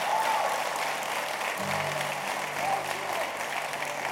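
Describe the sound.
An audience applauds steadily during a Spanish-language sermon, answering the preacher's call for applause: a dense, even wash of clapping that fills the whole stretch, with a low hum entering partway and a faint voice or whistle-like tone above it.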